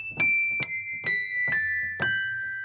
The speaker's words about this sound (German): vorsichtig verschiedene Weingläser ins Innere des Kasten, verbinde die alten Hämmerchen des Klavieres über Seile mit den Tasten. Und schließlich muss man nur noch die Tasten drücken, wie beim Klavierspielen. Schon klopfen die Hämmerchen an das Glas.